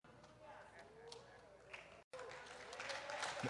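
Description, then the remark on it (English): An audience claps in a dense, steady patter that breaks off for an instant, then returns and swells a little louder toward the end, with murmuring voices mixed underneath. “Don't clap yet.”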